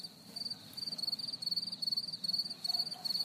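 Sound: crickets chirping at night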